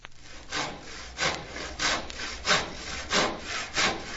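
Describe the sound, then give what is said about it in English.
A voice imitates a saw with a steady, rhythmic back-and-forth of breathy rasping strokes, about seven in a row, moderately loud, with no talking. “Make your arm go back and forth while I make a sawing noise.”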